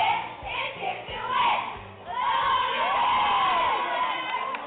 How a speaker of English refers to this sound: She'd get standing ovations and cheers, and you could yell her name.